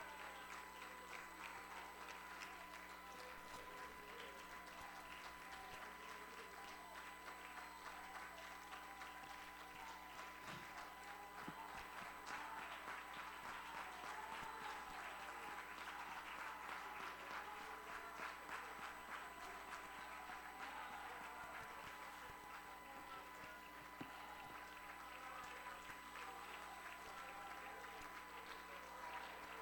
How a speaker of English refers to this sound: Let's stand in this house and clap our hands and give God glory just for a moment. Applaud the Lord for the great things that he does.